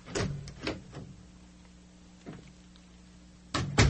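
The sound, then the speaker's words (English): A door is handled and pulled shut, with a few scattered clunks and knocks over a low hum, ending in a louder thud as it closes. “But the moment he closed the door, he knew something was wrong.”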